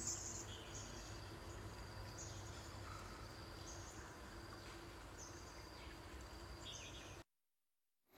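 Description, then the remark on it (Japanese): A steady rush of flowing water fills the scene while birds chirp and trill faintly above it, running continuously for about seven seconds before cutting abruptly to silence. “水の流れる音とかね、鳥のさえずりも聞こえましたけど”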